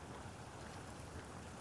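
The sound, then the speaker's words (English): A small stream near a house flows steadily, a soft continuous rush and patter of water with no voices, quiet and unchanging throughout. “Little stream near our house.”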